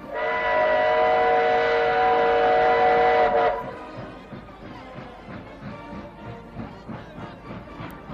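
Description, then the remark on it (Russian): A loud, sustained whistle from an approaching train blasts for about three seconds, then gives way to the steady rhythmic rumble and clatter of rail cars rolling past close by. “Вон он, поезд, совсем близко!”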